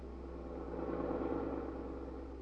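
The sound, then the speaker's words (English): A steady car engine hums and rumbles from inside Pete's car, a low continuous drone that swells slightly midway as if easing onto the throttle, with no voices. “Suppose we listen in on the conversation that is going on in Pete's car.”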